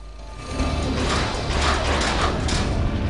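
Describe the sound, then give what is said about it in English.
Large metal doors inside a large domed building on the edge of a modern city slide open with a continuous heavy mechanical rumble and grinding clatter, swelling after a quiet start and holding steady and loud, with no voices. “Inside, large metal doors slide open.”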